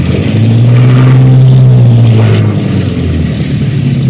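A loud, steady engine roar with low droning tones that swell and shift in pitch as a boat's engines rev hard at full astern while coming in to a wharf in the rain, with no voices over it.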